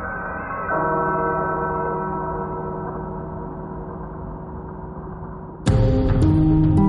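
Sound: church bells ringing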